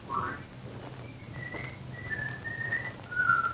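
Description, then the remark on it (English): A person whistles a short tune of sustained, clear tones that step between pitches, each note held for about half a second, over a low background hum. “Oh, where's the whistler?”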